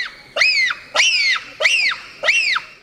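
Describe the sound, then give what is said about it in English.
Four shrill bonobo screeches in a steady rhythm, each a loud arching cry that rises and falls in pitch, with short gaps between them and no talking. “Those high-pitched screeches are a sophisticated form of communication, and their gestures are unmistakable.”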